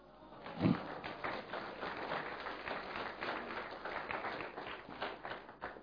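An audience breaks into steady applause, a dense wash of many hands clapping at an even level for several seconds, with a brief louder burst near the start.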